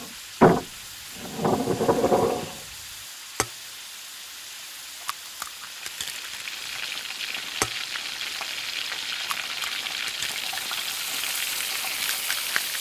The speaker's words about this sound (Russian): Отрезай кусочек сливочного масла и клади его на сковородку. А потом, когда масло растопится, разбей на сковородку два яйца.